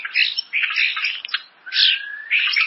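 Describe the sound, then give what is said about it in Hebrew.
A starling calls in a busy run of harsh chatter, squeaks and whistles, including one long sliding whistle, loud with brief pauses between bursts. “בהנרי הרביעי, שייקספיר הזכיר זרזיר.”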